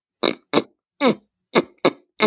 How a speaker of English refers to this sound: And it's like this little piggy noise, but I do it to clear my throat.